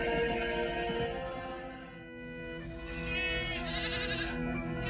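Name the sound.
sheep bleating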